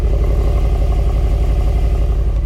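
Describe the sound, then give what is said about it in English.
A Mercedes-AMG coupe engine idles, a steady, deep burbling rumble with a lumpy, throbbing rhythm that holds evenly throughout, loud and alone with no one talking; the car has quad parallelogram-shaped tailpipes. “Even just idling, it sounds so good.”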